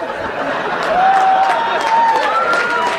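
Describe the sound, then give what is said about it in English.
Steady applause from a crowd, many hands clapping at once in a dense patter for about three seconds, with a faint rising whistle running through it. “Don't clap him.”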